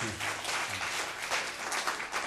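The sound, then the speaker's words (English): An audience at a Sunday worship service applauds the speaker's 21st wedding anniversary steadily, a dense wash of many hands clapping at once, moderately loud and sustained throughout the short stretch without any voices. “You clap now, but you don't have to live with me, right?”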